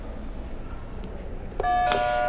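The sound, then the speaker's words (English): After a stretch of low background noise, a buzzer is hit to mark the end of a picture-description session and suddenly sounds, a steady, bright, loud electronic tone that holds without pause until the end, with a brief click partway through. “Go ahead and hit a buzzer.”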